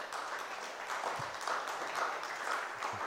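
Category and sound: crowd, weak audience clapping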